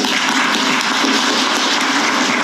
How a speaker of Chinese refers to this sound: 我们掌声来欢迎。